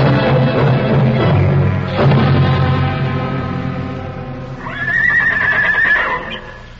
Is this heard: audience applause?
no